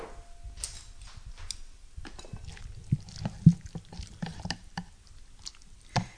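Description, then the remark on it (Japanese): Thick soup is poured and scraped onto a plate, with soft wet splashes, irregular light clinks and a few sharper knocks over about six seconds, with no talking. “さあ、じゃあこれを、味もですね、今食べた感じではもうかなり塩味もしっかりついてて大丈夫なので、このままお皿に移したいと思います。”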